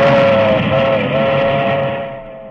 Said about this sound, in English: You could afford to move away from all that racket. Oh, it doesn't bother me. Just the milk train. Lets a guy know what time it is.